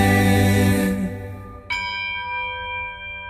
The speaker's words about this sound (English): Ring Christmas bells, for now's the season to be jolly. Ring Christmas bells, for Christmas time is here.